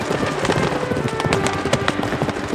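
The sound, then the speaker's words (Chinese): A dense rumble of many galloping hooves pounding together in a rapid, continuous clatter, loud and sustained throughout, with no voices: a great herd of wild beasts charging down from a mountain to the east, raising clouds of dust. “这时东边山上突然响起万马奔腾的声音，震得尘土滚滚飞扬，一群不知道是什么东西黑压压地冲过来，所有的鸟儿看到这个阵势全吓跑了，连凤凰和素霜也逃了。”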